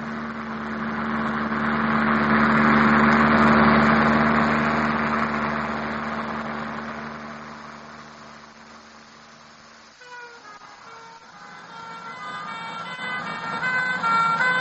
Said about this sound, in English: Ambulances are going east.